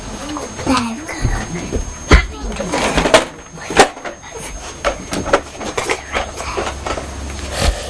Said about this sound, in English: Shutting the door.